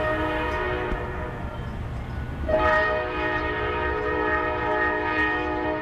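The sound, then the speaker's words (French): A loud freight train rumbles past on a railway line in Indianapolis, its horn blaring in a sustained multi-tone chord that shifts pitch midway, over continuous low rolling noise from the wagons. “Il fait toujours autant de bruit, mais il en passe désormais moins. Les trains de marchandises se sont raréfiés parce que l'activité industrielle à Indianapolis décline.”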